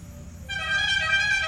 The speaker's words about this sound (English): Even the sound of a truck.